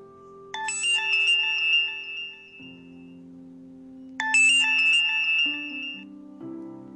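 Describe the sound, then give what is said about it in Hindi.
A mobile phone ringtone plays a bright, repeating electronic melody in two bursts over a sustained musical tone, clear, with no one speaking, before the phone is picked up. “हाँ क्या हुआ, चाहत सुकृति का फोन उठाते हुए बोली।”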